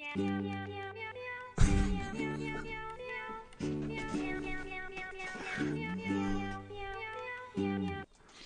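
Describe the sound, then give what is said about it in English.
A bouncy tune built from sampled cat meows, pitched to different notes and strung into a steady melody over a thumping beat, loud with no talking. “tell a customer that their pet recorded a song while they were in here and then play the meow song.”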